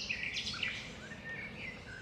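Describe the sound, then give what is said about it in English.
Several birds chirp and sing in overlapping, high-pitched calls over a steady low outdoor rumble, a wetland bird chorus in Everglades National Park, southern Florida, with no voices present. “Oddly enough, besides all those birds, I'm not seeing too many animals here.”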